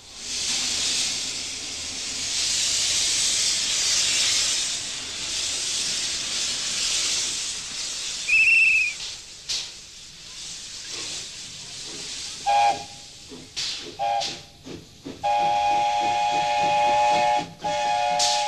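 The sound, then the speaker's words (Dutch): A steam locomotive on the 20 km Hoorn–Medemblik line in West-Friesland, Netherlands, which burns about 700 kg of coal and 2,500 litres of water per one-hour run, lets out a long, loud hiss of steam, then several short whistle blasts and a sustained, steady whistle tone, with chuffing bursts in between. “En elke rit, die ongeveer een uur duurt, verstookt de lok zo'n 700 kilo steenkool en ongeveer 2500 liter water.”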